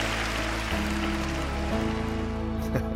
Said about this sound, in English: An enthusiastic crowd at the Date Night Challenge event featuring Pastor Ted Cunningham.